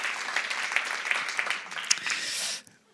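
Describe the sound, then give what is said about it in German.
An audience at a show in Berlin bursts into dense, sustained applause, many hands clapping together in a lively wash of sound that lasts a couple of seconds before cutting off abruptly. “Ich würde sagen, wir klatschen nochmal richtig, oder?”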